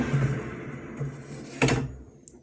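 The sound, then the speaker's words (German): An air fryer basket with fish sticks is pulled out for shaking, sliding with a low scraping rumble and ending in one sharp clack, over the steady hum of the air fryer's fan; a small faint tick follows right at the end. “Das heißt, wir ziehen den Korb einmal raus.”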